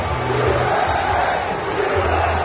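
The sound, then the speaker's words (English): A large stadium crowd in Pittsburgh chants "USA" in unison for President Trump, a loud rhythmic roar of many voices filling the space, dense and continuous over broad background crowd noise. “Yep, and that's the crowd's reaction. USA! USA! USA!”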